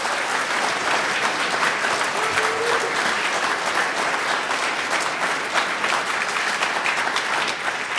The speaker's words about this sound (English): It's a little awkward to ask people to clap for a global pandemic.